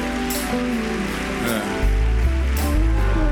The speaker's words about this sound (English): Clap those hands, everybody.